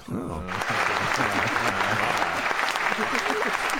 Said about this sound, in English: Oh. I've heard worse. I have to give her an applause on that one. That wasn't the worst.